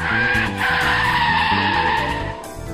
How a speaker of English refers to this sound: I pulled my car up to the side of my office building and hopped out.